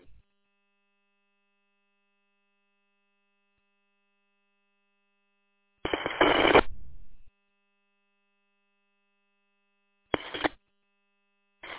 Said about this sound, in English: Whoever said it was working, you just turn off your Roger and modem beeps.